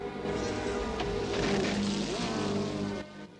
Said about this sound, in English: In the roar of an engine, Max kissing a brunette.